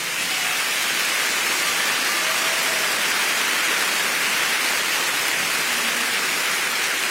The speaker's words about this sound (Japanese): もう一回大きな拍手。